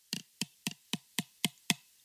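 Seven hollow, clacking taps in a steady, even rhythm as two small plastic bottles are knocked together, each a short bright hit with a dull thud underneath. No voices.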